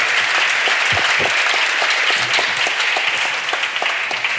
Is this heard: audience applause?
yes